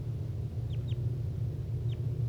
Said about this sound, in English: That was bird 6-1.